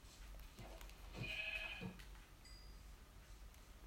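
A single sheep bleats once, a short wavering cry of about a second over a low, steady background rumble, with no one talking.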